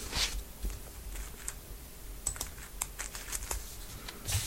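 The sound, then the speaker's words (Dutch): Papers being shuffled, with a broad rustling swish followed by a run of small crisp crinkles and taps at an uneven pace. No one speaks. “Ik moet even mijn papieren weer eventjes”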